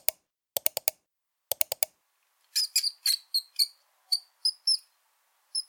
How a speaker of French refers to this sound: Mais qu'est-ce que c'est ? Ce n'est pas une souris d'ordinateur. C'est une vraie souris.